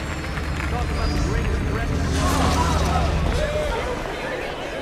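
A large crowd at a rally in front of the most powerful international institution in the world roars and cheers for the Fantastic Four, a dense, loud wash of many voices that swells slightly midway and holds for the whole stretch, with no single speaker standing out.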